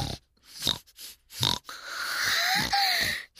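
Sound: burp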